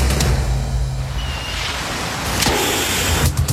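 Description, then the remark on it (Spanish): A car drives steadily along a road, its low engine rumble and broad tire-on-pavement noise filling the scene, with a brief swelling whoosh partway through. No one speaks. “Vas camino a tu destino favorito y de repente, un pinchazo detiene tu paseo.”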